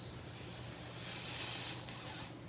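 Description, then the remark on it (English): A goose hisses at a person feeding it, in a long, harsh, breathy stream, swelling louder, breaking off briefly, then hissing again before fading. No talking. “They're hissing at me.”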